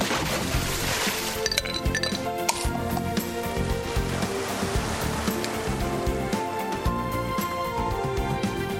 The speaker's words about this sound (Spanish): Doce y seis minutos de la mañana, chapoteando, estamos ya en esta piscina que se llama Buenos Días Madrid.